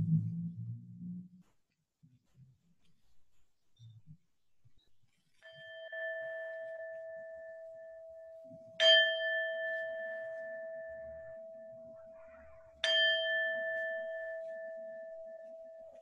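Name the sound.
bell rung three times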